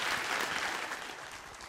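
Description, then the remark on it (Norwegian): Steady audience applause for a presenter being given a green T-shirt and a bouquet of flowers, a dense wash of many hands clapping at an even, sustained level throughout, fading only slightly toward the end, with no voices standing out. “En stor applaus till dig”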